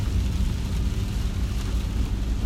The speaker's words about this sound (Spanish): No sé si escuchan las gotas de cayendo en el parabrisas, a ver.